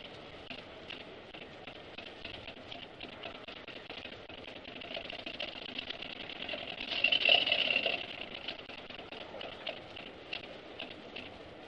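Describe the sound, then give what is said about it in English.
Rapid, dense crackle of a Geiger counter clicking steadily near a sample of normal, unpurified uranium, then swelling into a louder, faster burst of clicks partway through as the sample is moved closer to the counter, before settling back to its earlier rate. No one speaks. “You can hear the counter clicking faster as I move the sample closer to the counter.”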